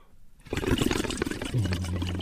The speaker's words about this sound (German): Kräftig bläst … durch das Plastikblasrohr in die halbgefüllte Wasserflasche.